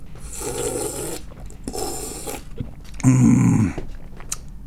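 Three breathy slurps of someone sipping tea, spaced by short pauses, the last one louder and throatier than the first two. No one speaks.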